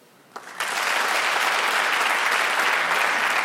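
Applause from a live show audience, clapping to answer who in the room was born in April, begins after a brief quiet moment, swelling quickly into steady, dense clapping that holds at a strong level to the end.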